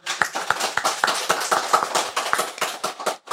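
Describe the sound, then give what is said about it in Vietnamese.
An audience claps together for a few seconds, a dense patter of hands with sharper claps landing in a roughly steady rhythm, fairly loud and with no voices over it. “Ừ dạ được, cái chứ còn gì, cho nó chẳng pháo tay đi.”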